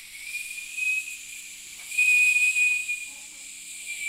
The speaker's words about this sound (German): Das erinnert mich an den Wind im Wald und habe ich dann auch direkt gedacht, dass es dunkler ist und dass es dann im Wald vielleicht Wind ist.